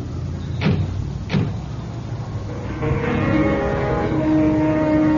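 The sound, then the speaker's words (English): Two sharp thuds of the door of a yellow 1938 DeSoto taxi slamming shut, then its engine starts up and settles into a steady, rumbling drive with tonal hum as the taxi pulls away, headed for the Biltmore Hotel. “From the back of the yellow 1938 DeSoto, I watch the city jiggle by.”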